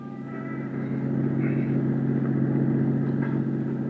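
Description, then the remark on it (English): A car engine hums steadily at cruising speed while driving an area street by street, a continuous low droning rumble that stays fairly loud and even throughout, with faint higher sounds drifting in over it. “So I decided to cruise that area street by street.”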